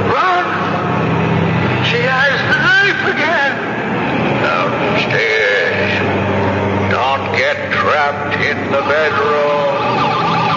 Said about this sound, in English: Turn it off! Turn it off! I've got to turn off the alarm.